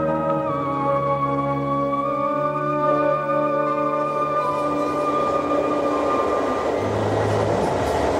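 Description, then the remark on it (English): An Amtrak passenger train heading towards New York at 3 o'clock in the morning rumbles steadily along the rails, its low mechanical drone layered with sustained tonal hums and faint metallic whines, continuous with no voices present. “Dear Catherine, it's now 3 o'clock in the morning, and I'm on an Amtrak train heading towards New York.”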